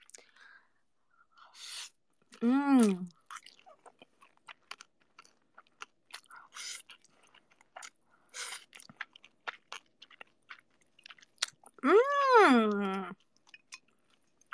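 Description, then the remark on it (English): Noodles being chewed right up against the microphone, with wet smacking clicks scattered throughout and two brief hummed vocal sounds of enjoyment. “Talks about the nastiest stuff and immediately goes eating noodles.”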